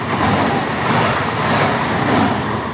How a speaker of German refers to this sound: Der historische Zug ist deutlich langsamer, mit weniger als 50 Stundenkilometern. Immer wieder muss die Lokomotive halten, um moderne Züge vorbeirauschen zu lassen.